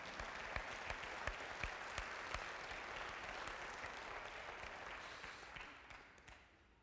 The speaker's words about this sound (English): Go ahead, clap. That was a good statement.